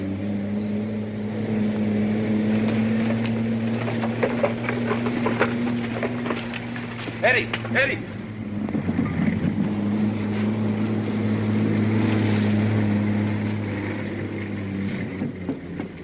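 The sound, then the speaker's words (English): The engine of an approaching enemy armored car drones steadily with a deep, low rumble and a few clanking metallic rattles partway through, continuous and fairly even in loudness, with no voices. “Armored car coming! Enemy armored car!”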